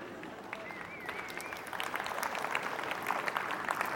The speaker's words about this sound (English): Lot less claps for that one.